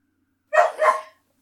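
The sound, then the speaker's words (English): A dog in a hearse lets out two quick barks in a row, fairly loud, with silence before and after. “There's a corpse in this car, and I think a dog, I hear.”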